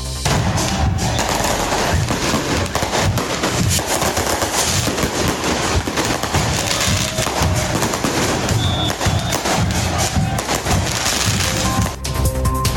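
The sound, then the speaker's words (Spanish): Fireworks bursting nonstop at the funeral wake of a Colo-Colo football fan killed on Sunday afternoon in Pudahuel, a dense rapid crackle of loud bangs and pops layered over each other, almost like gunfire, with no speech. “En medio de fuegos artificiales se realiza el velatorio del hincha de Colo-Colo asesinado la tarde del domingo en Pudahuel.”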